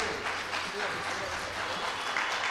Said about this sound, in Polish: Ogromne brawa, tak oczywiście.